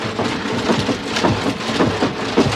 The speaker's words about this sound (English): I got my medals in there. My medals will console me. What do I care? Listen to them rattle.